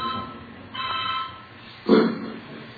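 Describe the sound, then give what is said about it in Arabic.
A phone rings with a short electronic ringtone: a bright, tonal chirp, then a louder, fuller burst a moment later, with no one speaking over it. “مين اللي عامل معاه التليفون؟”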